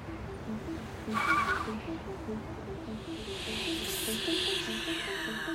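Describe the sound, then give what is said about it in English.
A car engine rumbles steadily while tires hiss on the road, a brief burst of noise rising early on as a priest pulls off in his car and drives away. “The priest walked out the door, he got into his car, and he drove away.”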